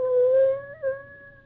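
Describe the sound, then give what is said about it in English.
A puppy whimpers in one long, steady, high-pitched whine that briefly lifts and wavers near the end. It sounds fairly clear, with no one talking. “Mr. Ames wouldn't have no truck with our little old puppy dog.”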